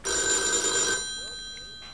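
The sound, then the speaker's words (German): A telephone rings loudly in a single bright, buzzing burst lasting about a second, then cuts off, leaving faint background murmur with a hint of a voice. “Ja, jetzt gehen wir hier zum nächsten, was hat, weil es kommt aufs Telefon.”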